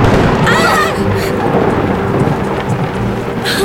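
A loud, sustained rumble of thunder in a lightning storm at sea, heard aboard a sailboat, rolls through heavy, steady rain, overpowering for several seconds, with a brief voice rising faintly above the storm.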